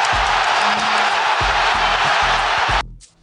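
A huge stadium crowd roars in a dense, sustained wall of cheering after Florian Wirtz's equalizer for Germany against Spain in a Euro quarterfinal hosted by Germany, loud, with deep rumbling thumps underneath before the noise cuts off abruptly near the end.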